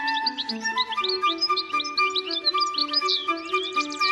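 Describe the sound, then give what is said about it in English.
A goldfinch sings a busy, rapid stream of high twittering chirps and trills, continuous, over low sustained musical tones. “No wonder Vivaldi found the goldfinch irresistible.”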